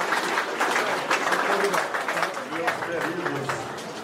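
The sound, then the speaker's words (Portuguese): A crowd applauds the religious leader João de Deus as he arrives at his spiritual center in Abadiânia, Goiás, Brazil, with dense, continuous clapping at an even loudness throughout, while indistinct voices and murmurs rise underneath in the second half. “Ao chegar no centro, o religioso foi aplaudido e falou rapidamente no microfone.”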